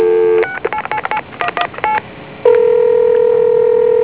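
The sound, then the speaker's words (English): A phone call to a time-and-temperature line on Saturday, April 25, 2009, about 6:01 p.m.: a steady tone gives way to a quick run of about nine touch-tone dialing beeps, short and evenly paced, followed by another steady tone that holds to the end. No one speaks. “Let me call the time and temperature to verify that.”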